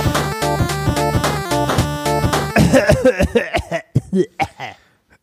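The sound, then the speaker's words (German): A short burst of music gives way to a rapid string of harsh, wheezy asthmatic coughs, loud, trailing off into quiet at the end. “Von diesem asthmatischen Husten geweckt zu werden, Weichei.”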